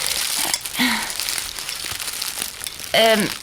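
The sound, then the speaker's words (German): A bag full of black tomatoes is opened and rustled, with steady crinkly rustling throughout and a couple of brief voiced sounds, one near the start and a louder one near the end. “Hier hast du die Tüte.”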